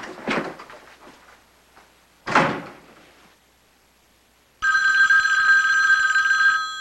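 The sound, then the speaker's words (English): A front door opens with a short rattling clunk as a man strides out, then bangs shut a couple of seconds later; after a pause, his steady electronic telephone ring starts and continues to the end. No one speaks. “He hangs up, then strides out the front door.”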